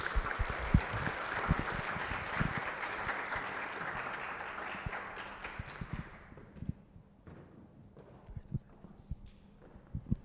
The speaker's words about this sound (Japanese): では拍手でお迎えいたしましょう。